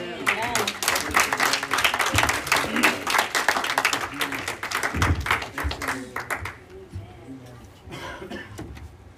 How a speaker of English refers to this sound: As he comes up, give the Lord a hand clap.